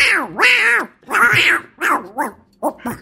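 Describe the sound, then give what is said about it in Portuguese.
A person does a raspy, quacking Donald Duck cartoon voice in a string of short, buzzy bursts, fairly loud, with no clear words. “E o Donald foi brincando fazendo um gato lá atrás, quando eu era criança.”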